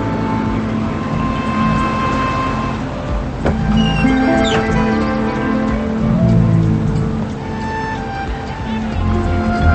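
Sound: school bus pulling up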